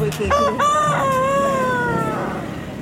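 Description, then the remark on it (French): A rooster crows one long, drawn-out cock-a-doodle-doo, loud, its strained call rising then holding before trailing off over a steady background hiss, by a cockfighting arena in East Timor after midnight. “Je passe près d'une arène de combat de coq.”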